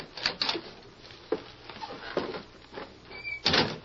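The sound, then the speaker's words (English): The wooden door of a little shack on the edge of the town of Sand Springs is opened, with a series of knocks, creaks and rattling clatters over a few seconds, ending in a louder scraping bump and a brief squeak. “Go on, open the door, Lacey.”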